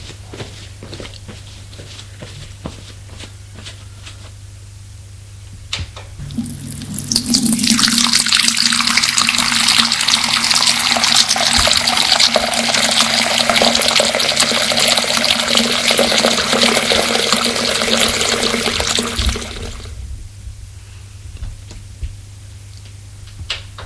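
shower water running

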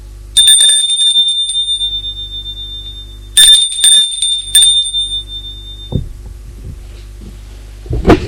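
doorbell ringing

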